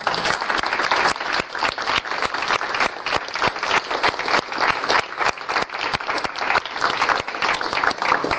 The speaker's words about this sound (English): So I'd like to thank our facilitators. I'd like to also give them an applause for their work.